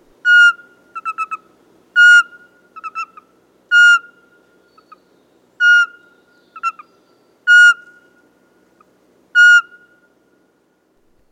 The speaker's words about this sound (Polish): Głos suweczki łatwo naśladować samemu. Jest to najniższy możliwy gwizd.